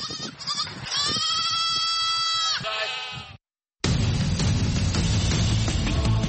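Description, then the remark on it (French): Goats and sheep kept by villagers bleat loudly, a long quavering cry lasting a couple of seconds, then a brief silence before a dense, noisy wash of sound takes over. “Pour beaucoup de ces villageois, ces chèvres et ces moutons apportent aussi un espoir de paix et de quiétude.”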